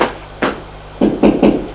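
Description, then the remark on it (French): Knocking on the door of a small sitting room: a couple of spaced knocks, a brief pause, then three firm knocks in quick succession. Solid, fairly loud wooden thuds with no talking. “Il va frapper à la porte du petit salon.”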